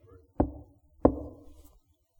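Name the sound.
knocking on a door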